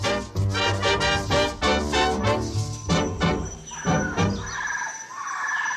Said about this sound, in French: C'est au milieu d'un concert de chants d'oiseaux que nous retrouvons Jason Naranjo